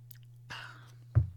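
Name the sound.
sipping coffee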